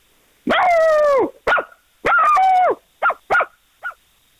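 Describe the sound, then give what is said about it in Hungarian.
A voice imitates a dog, starting with two long, drawn-out howling barks and following with three short, sharp yips that fade at the end. The sound is loud, with no talking. “Nem mondd, hogy milyen kutya.”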